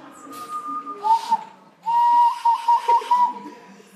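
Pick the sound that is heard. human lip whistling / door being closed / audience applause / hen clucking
human lip whistling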